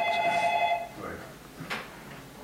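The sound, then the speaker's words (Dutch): A telephone rings once for an incoming caller with a bright electronic trill lasting under a second, clear, followed by quieter indistinct sounds. “Ja, er is een beller,”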